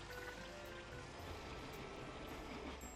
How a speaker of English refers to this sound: The train started suddenly. Soon it was going fast.